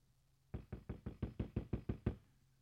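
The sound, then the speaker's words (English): About ten firm knocks on a door come in a quick, steady series, evenly spaced and fairly loud, with no voices and quiet before and after. “was that the door?”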